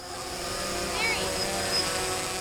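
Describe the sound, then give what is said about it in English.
A small white drone flies over Fidelity Lake. It is used by the City of Lansing to carry GoPro cameras. It whines steadily with a buzzing, high-pitched motor drone, its pitch swooping briefly as it passes overhead, continuous throughout. “Somebody is flying a small white drone over Fidelity Lake.”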